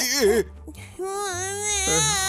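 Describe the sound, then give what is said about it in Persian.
A child cries in loud, wavering wails, broken by a short catch of breath before the sobbing rises again, with a low hum underneath. “اگه اینو بهت بدم قول میدی گریه نکنی؟”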